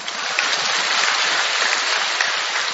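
A crowd claps steadily, a dense wash of hand claps lasting a few seconds at an even, fairly loud level, with no voices cutting through.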